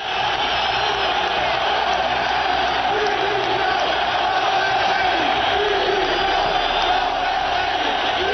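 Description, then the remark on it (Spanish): A large stadium crowd at Sevilla's Pizjuán stadium roars with sustained booing and chanted shouts of "Lopetegui dimisión" after the referee's final whistle, a dense, continuous wall of voices that stays loud and steady throughout. “Bronca y gritos de Lopetegui dimisión.”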